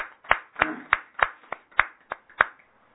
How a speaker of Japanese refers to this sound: 3歳の誕生日を迎えられましたので、盛大な拍手でお祝いします。